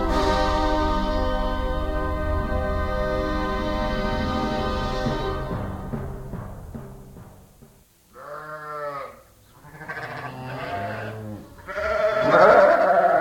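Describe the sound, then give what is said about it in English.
Sheep and lambs bleat several times in quick succession, wavering and fairly loud, following a sustained droning tone that fades out at the start. “As we speak, lambs are being born on sheep farms across the northern third of the country.”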